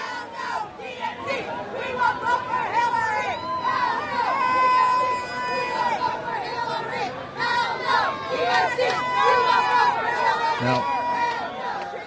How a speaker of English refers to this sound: I was working my way through these security areas on the way to the arena, just on the other side of a temporary hurricane fence, there were a bunch of Bernie Sanders people just yelling at those headed, and here's a bit of what that sounded like.